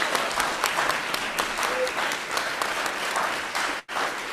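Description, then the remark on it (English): A steady round of applause from a crowd for the cast of a nativity scene performance, dense overlapping claps at an even, fairly loud level that holds throughout, with a brief sharp dropout near the end. “So can everyone give everybody a round of applause?”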